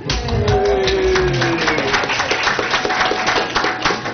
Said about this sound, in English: Never expected applause for that.